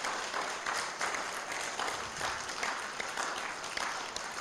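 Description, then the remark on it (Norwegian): An audience at Trondheim Misjonsmenighet applauds steadily to welcome a couple, a dense wash of many hands clapping at once, sustained and even throughout with no voices rising above it. “Og så ønsker vi dem velkommen i Trondheim Misjonsmenighet med en god applaus.”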